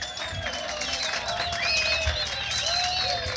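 A crowd applauds steadily for a few seconds as members of a blues band are introduced, a dense wash of clapping with shrill whistles and some cheering rising above it, holding an even level throughout.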